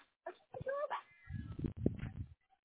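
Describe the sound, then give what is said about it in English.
A cat meows, a short cry followed by a longer, wavering, somewhat strained meow, heard alone through a thin, phone-like line. “You know, my cats, sometimes they get a little shy about eating them.”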